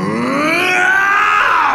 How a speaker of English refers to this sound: and you feel it suddenly release Morgu from deep inside you, who emerges with a scream, a deep, dark, horrible scream.